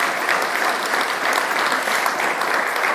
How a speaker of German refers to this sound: Man sieht es hier ganz deutlich, wir haben eine Kerze vorne, einen Weihnachtsbaum, wunderschöne Deko, die unser ganz tolles Deko-Team hier in viel Arbeit zusammengestellt hat, das ist mal einen Applaus wert.